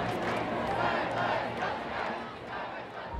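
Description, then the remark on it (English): A crowd of demonstrators jabbing placards showing poodles and the phrase "Be liar" shouts and screams abuse as Prime Minister Tony Blair arrives, many overlapping angry voices forming a loud, dense roar that swells and dips slightly without pause. “Demonstrators jab placards in the air, pictures of poodles and the phrase, "Be liar." They scream abuse.”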